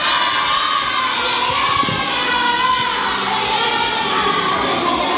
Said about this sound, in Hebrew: גם אתם שצועקים את האי אי אי אי אי, אני מסתכל מי צועק הכי חזק ונותן לו את הפרס של תרייג.